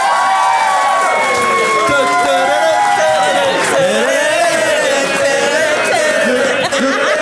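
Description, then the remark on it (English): A live audience in Phoenix cheers and applauds loudly and steadily for several seconds, voting by applause for one side of an argument: a dense roar of many voices with whoops and clapping blended together, holding at full strength throughout. “You're cheering climate change.”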